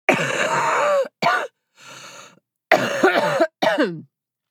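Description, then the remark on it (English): A person ill with COVID coughs in a series of five harsh, raspy bursts, some drawn out and groaning, with one quieter, breathy cough in the middle. Loud, with no talking. “That is how I sound when I cough.”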